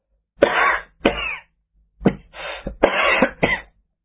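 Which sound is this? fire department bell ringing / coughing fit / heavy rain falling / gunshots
coughing fit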